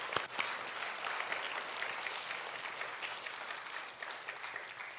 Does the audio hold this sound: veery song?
no